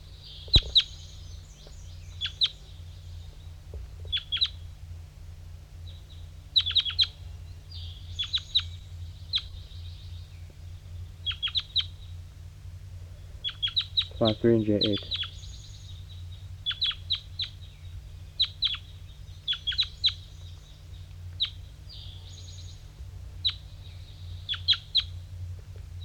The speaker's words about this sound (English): Other wild birds are flying in.